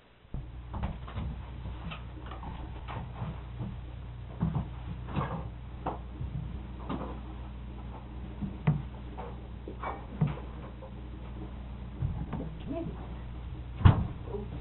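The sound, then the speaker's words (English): A door being handled, with a series of scattered wooden clicks, knocks and latch rattles at an irregular pace, ending in one sharper, louder thud, all over a low steady hum. “Now, this door right here, Miss Daisy, is all right? Leave this door?”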